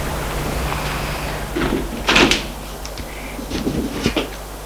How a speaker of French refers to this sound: Il sonne à la porte. La porte s'ouvre.